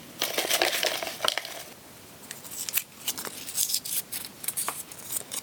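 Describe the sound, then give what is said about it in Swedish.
Paper answer slips for a prize draw, including entries without all answers correct, rustle and crinkle as they are poured and stirred together, a steady dry shuffling with sharper crackles scattered throughout, fairly quiet, with no voices. “Då tar vi även och häller i de här svaren som inte hade alla rätt och blandar om lite.”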